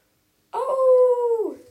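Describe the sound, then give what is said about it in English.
A single wolf howl in the woods rises abruptly, holds a steady mournful tone for about a second, then slides downward as it fades. It is fairly loud, with no other sounds around it. “He looks for dummy, but he sees a wolf.”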